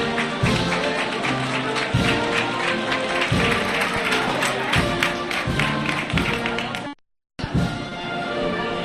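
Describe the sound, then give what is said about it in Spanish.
Sustained crowd applause in Plaza Esteve as the procession of María Santísima del Valle Coronada enters the convent of San Francisco and the church doors close, a dense, crackling wash of clapping over a brass band playing steady low rhythmic notes. A brief silent gap breaks it near the end. “Y con estos aplausos, Diego, y al son también de la banda musical …, se cierran las puertas de la iglesia de San Francisco.”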